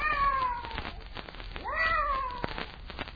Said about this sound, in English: I wonder what that cat was doing here. Probably mascot for a regiment of witches. And this is their GHQ.